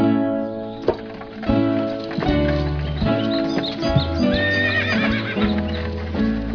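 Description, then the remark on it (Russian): A horse whinnies loudly while hooves clip-clop in a steady rhythm. The neighs rise and fall over the continuous trotting, and no one speaks. “Ехали два брата. Один бедный, другой богатый. У обоих по лошади.”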